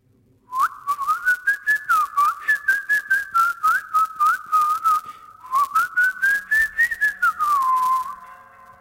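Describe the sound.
A person whistles a warbling, birdsong-like melody, sliding up and down in quick chirping bursts. Two lively phrases are split by a brief pause, with no talking.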